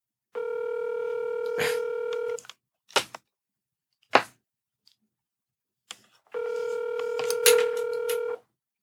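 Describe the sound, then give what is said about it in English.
Telephone keypad tones sound as someone dials to call a person back, in two long, steady electronic bursts separated by a few sharp clicks and short pauses. The tones are clear, with no talking. “So therefore, you have to call him back.”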